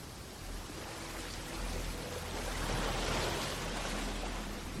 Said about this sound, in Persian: دره پر از آب میشه، بهتره قبل از اینکه مجبور بشیم شنا کنیم برگردیم به مسا.